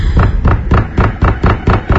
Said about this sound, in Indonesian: Seseorang menggedor pintu kamarku dengan keras.